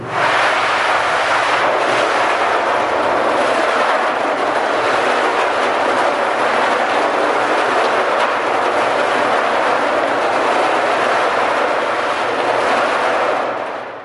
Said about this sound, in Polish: To jeszcze króciutko powiedzmy na przykład o tej maszynie, która znajduje się na samym końcu sali. To koło, które tutaj widać, to jest koło do wytwarzania rumoru. To jest dosyć głośna maszyna. Zaprezentujemy jej odgłosy.